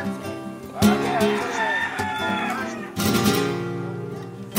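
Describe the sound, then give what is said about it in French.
A rooster crows loudly, two long strained calls in a row, while chickens cluck and chatter steadily in the background. “Et c'est à qui le coq, là?”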